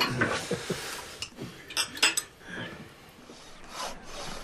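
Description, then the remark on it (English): Wine being poured into a glass, with a few light clinks and rubbing scrapes of glassware scattered across a soft, steady rush of liquid; no one speaks. “Pour the wine, will you, Laurie, old man?”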